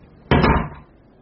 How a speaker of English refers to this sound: Shut the door, will you?